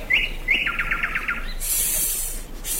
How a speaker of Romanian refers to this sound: Auziți? Cântă privighetoarea. Priviți acolo spre copacul cel mai înalt.